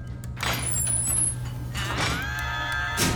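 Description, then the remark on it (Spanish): A sliding door into a TV series' writers' room opens with two airy, hissing whooshes about a second and a half apart, over a steady low mechanical hum. No one speaks. “Yo creo que era esta puerta.”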